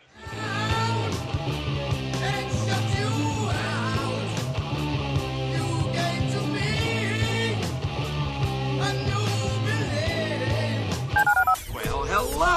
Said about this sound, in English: Dial the phone.